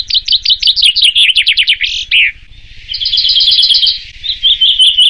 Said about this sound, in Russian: Сразу после того, как в Стокгольме отгремел финал Евровидения, в немецком Гарце начался очередной турнир традиционного чемпионата певчих зябликов.